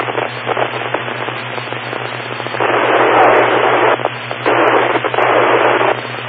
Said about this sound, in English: unfortunately, the interesting thing is the signal strength is not changing. But I gotta wait for the static to go away before I continue, so.